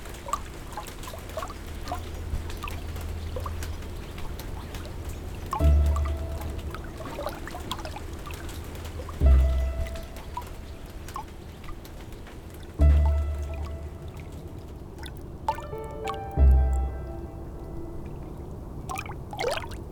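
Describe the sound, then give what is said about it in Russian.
Water drips and patters steadily on a tin roof, with a heavier drop landing about every three to four seconds and giving off a short metallic ring. No one speaks. “Несколько шагов по старой лестнице наверх, и слышно, как капли воды ударяются о жестяную крышу.”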